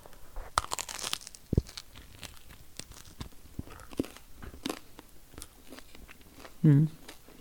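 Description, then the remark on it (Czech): Crisp crunching as someone bites into and chews a crusty heel of homemade sourdough bread, made of one third rye and two thirds wheat flour, topped with carrot spread, with irregular crackly snaps throughout and a short voiced murmur near the end. “a já jsem teď dostala výjimečnou možnost ochutnat křupavou patku chleba s mrkvovou pomazánkou”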